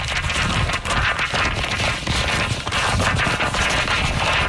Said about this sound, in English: I gotta just unwrap that corner. Unwrap the last corner.